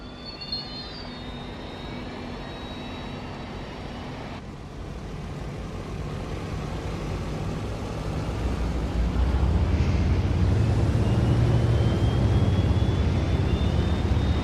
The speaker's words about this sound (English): Alright, let's go ahead and start these engines up. And I don't know about these sounds.